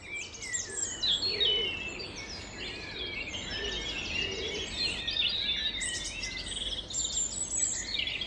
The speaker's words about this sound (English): It's in the months of May and June.Is when the birds sing the most loudly and in the greatest number early in the morning. We call it the dawn chorus. A very nice sound to hear. It is quite intense.